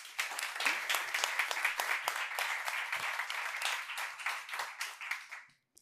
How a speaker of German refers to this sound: Vielleicht auch nochmal kurz einen Applaus.